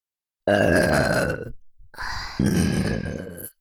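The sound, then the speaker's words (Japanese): Two long, loud, rumbling burps from a girl, each lasting about a second, separated by a brief pause. No talking, just the drawn-out belches. “でしたら、お兄さんを惚れさせるゲップをたくさんしなければなりませんね。”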